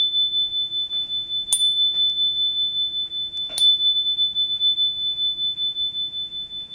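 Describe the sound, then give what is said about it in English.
A small, high-pitched bell rung at a séance table rings out in a steady sustained tone, struck sharply twice about two seconds apart, over a low, soft rumble with no one speaking. “And with the ringing of this bell, we lift the veil twixt heaven and hell.”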